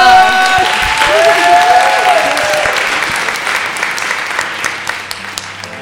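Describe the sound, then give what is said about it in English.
An audience breaks into sustained applause, dense clapping with a few cheers and whistles at the start, gradually thinning and fading over about six seconds. “And please give yourselves a round of applause for being synced, a wonderful audience.”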